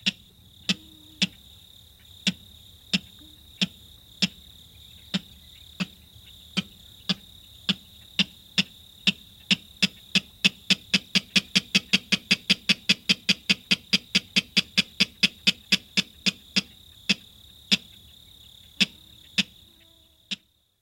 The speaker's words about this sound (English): Take, for example, the clapper rail, a widespread salt marsh species whose sharp cack-like calls enliven mosquito-infested tidal marshes even in the dead of night.